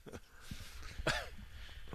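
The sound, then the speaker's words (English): A single sharp cough bursts out, with a faint throaty rasp before it and soft shuffling around it. “I have the coronavirus. I just coughed.”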